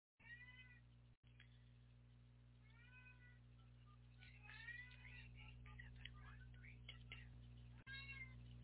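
cat meowing

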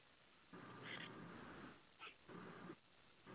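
dog whimpering

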